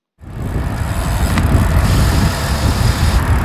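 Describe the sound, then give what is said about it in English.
Steady street traffic rumbles at a busy crossing of MLK in St. Pete, by Trips Diner and Blush, with car engines droning and idling, a continuous low roar with a brief passing whoosh, and no one talking. “Okay, about to cross MLK, right here by Trips and Blush.”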